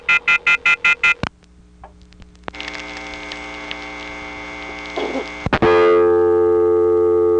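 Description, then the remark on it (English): A rapid burst of loud pulsing receiver off-hook tones from a telephone exchange in Quietville, Pennsylvania, then clicks and a steady buzzing line tone, ending in a louder continuous electronic ESC lockout tone after another sharp click. “Hung up on the receiver off hook tone and got that famous ESC lockout noise, and then had to do a short flash before I got a new dial tone again.”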